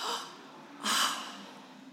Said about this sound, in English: You should gasp. Let's just gasp.